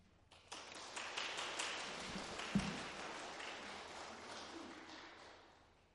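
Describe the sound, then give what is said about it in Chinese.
An audience at True Light Church applauds in encouragement after a speaker's sharing, with steady, dense clapping that swells quickly, holds for several seconds, then gradually tapers off. No one speaks over it. “谢谢你们鼓励的掌声。”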